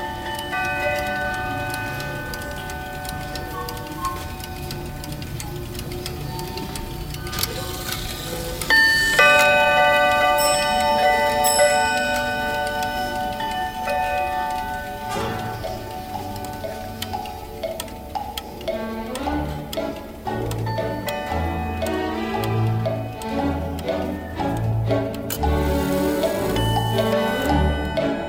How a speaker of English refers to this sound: Not surprisingly, the clocks are set at different times to avoid a chiming nightmare once every 30 minutes. Still, it was pretty noisy in there.